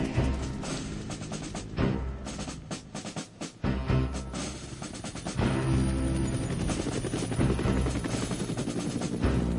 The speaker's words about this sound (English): Helicopters arriving as we speak.